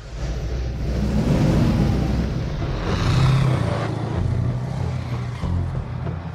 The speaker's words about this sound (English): Exhaust billows as the tank's engine starts.